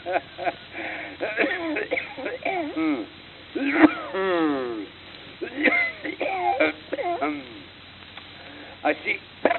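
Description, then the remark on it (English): A man goes through a long, rasping coughing fit, with hacking bursts broken by wheezing, whooping intakes of breath and throaty groans, fairly loud throughout. “I think this is the hooking cough I'm taking.”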